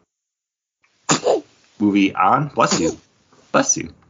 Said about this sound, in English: Bless you.